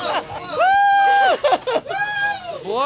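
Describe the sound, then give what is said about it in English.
A blown novelty sheep toy lets out two drawn-out, wavering bleats, loud, one after the other with a short choppy break between them. “about to blow the sheep.”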